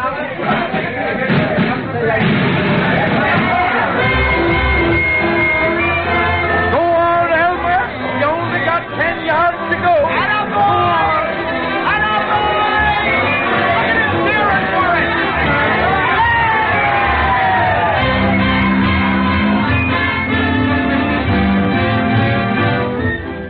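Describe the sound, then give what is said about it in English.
A large crowd of hundreds of citizens and farmers roars and cheers as an 8-foot-long bull seal wades into San Francisco Bay, a dense, steady wash of many overlapping voices, loud and continuous throughout, with occasional shouts rising above the babble. “To the strains of Hayward's town band and ladies' drum corps, to the cheers of hundreds of citizens and farmers from the surrounding countryside, an 8-foot-long bull seal, whose presence inland is still a mystery, wades into San Francisco Bay”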